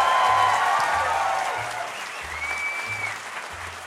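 An audience claps steadily for several seconds, a dense wash of applause that slowly eases off, with a few faint whistles rising above it.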